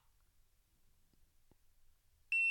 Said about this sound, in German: Ja, und jetzt habt ihr sogar gehört, dieses Gerät macht einen Piepton, wenn man es einschaltet.